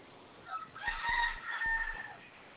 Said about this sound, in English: Okay, it's Cardinal Rooster in the background here.